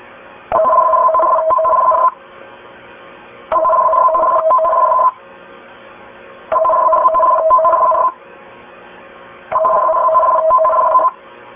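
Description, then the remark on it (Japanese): An emergency warning broadcast test signal aired by NHK Osaka in Japan for checking that emergency warning receivers pick up the signal: four loud, evenly spaced bursts of a harsh, warbling two-tone electronic signal, each lasting about one and a half seconds, separated by short silences, with no speech. “今から緊急警報放送の試験信号を NHK 大阪から放送します。”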